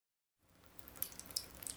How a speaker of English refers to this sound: something's wrong with the shower. It won't turn off completely. It keeps dripping.